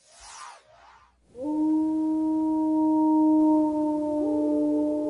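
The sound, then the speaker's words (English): A gray wolf in the northern Rockies howls one long, sustained note that swoops up quickly and then holds steady and loud, with a small shift in pitch near the end. A brief breathy rush comes first. “Once again, the howl of the gray wolf echoes through the peaks and valleys of the northern Rockies.”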